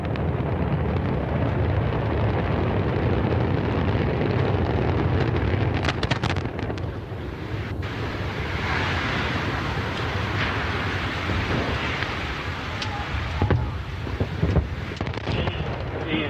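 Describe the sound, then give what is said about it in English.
A continuous, heavy low rumbling roar of Antares rocket engines at liftoff, main engines at 108%, launching Cygnus on its third cargo resupply mission to the ISS, steady and loud for the whole stretch, with crackling, wind-buffeted texture and no voices. “And we have liftoff of Antares, the Dwarf 3 mission that brings Cygnus on its third CRS mission to the ISS.”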